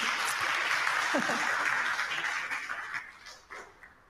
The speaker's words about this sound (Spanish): Un aplauso fuerte aquí.